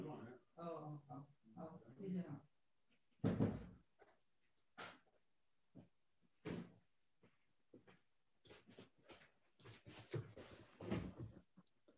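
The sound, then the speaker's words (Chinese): A door thuds open or shut as someone goes to answer repeated knocking, followed by scattered clunks and shuffling knocks. A voice speaks briefly just before, and faint sounds of movement continue afterward. “不好意思，我去看一下门，有人一直敲门，我去看一下啊。”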